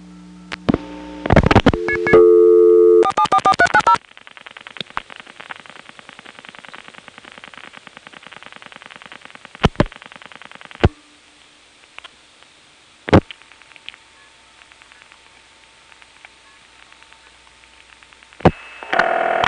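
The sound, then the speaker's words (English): A telephone call through a Bell System step-by-step community dial office: a quick burst of dialing beeps, including multi-frequency tones from crosstalk, then a long buzzy, pulsing line tone punctuated by a few sharp mechanical switching clicks, with no one speaking. “Obviously, that call ended up on a Bell System Step CDO.”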